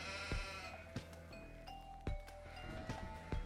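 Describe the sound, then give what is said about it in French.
Sheep bleat steadily at a sheepfold on the island of Nolsoy, their wavering cries overlapping, while a few sharp knocks or clanks punctuate the background at irregular moments. “Ici, tu vas chercher un mouton à la bergerie, la maison d'à côté”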